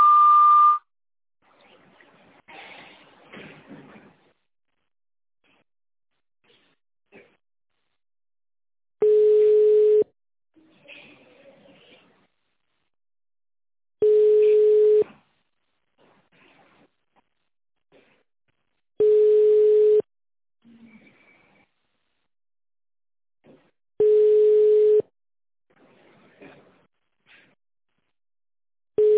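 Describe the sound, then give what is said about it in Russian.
A telephone line tone on a call to a sanatorium rings in steady one-second beeps about every five seconds, clear and even, with a higher short tone at the start and faint line noise between. “После длинного сигнала переведите ваш аппарат в режим тонального набора и наберите внутренний пятизначный номер.”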